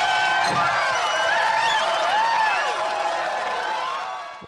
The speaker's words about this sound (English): Crowd got rowdy. Almost sounded like the audience for … during the Blues Brothers towards the end there.